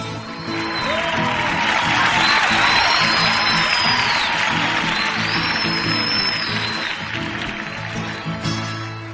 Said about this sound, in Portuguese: Foi uma salva de palmas, gritaram viva pro fazendeiro que tem 1 milhão de pé de café por esse rico chão brasileiro.